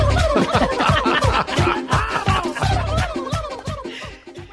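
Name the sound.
turkey gobbling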